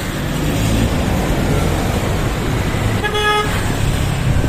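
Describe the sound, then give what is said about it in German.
Steady, loud roar of city street traffic in Manila with engine rumble, broken by one short, bright car horn honk partway through. “Die Straßen in der Stadt sind laut. Ständig hupt jemand.”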